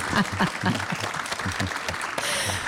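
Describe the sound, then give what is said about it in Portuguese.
An audience applauds with dense, steady clapping that holds for about three seconds, fairly loud throughout, with murmuring voices mixed in underneath. “Uma salva de palmas para o dono do Oli.”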